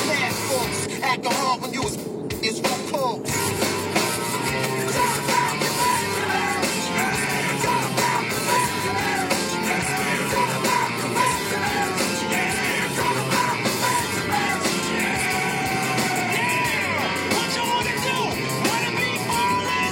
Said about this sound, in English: Fucking like icy fucking materialistic fucking rap song, re-record the fucking vocals and yell. It's a fucking rock remix, you dumbass.